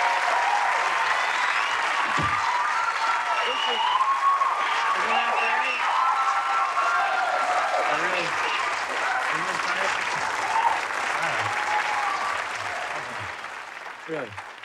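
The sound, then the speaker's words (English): A studio audience breaks into long, loud applause, a dense steady roar of clapping with scattered cheers and whoops, with voices calling out over it before it thins slightly at the end, greeting Gilda Radner as she appears on a television show. “Don't milk the applause like that.”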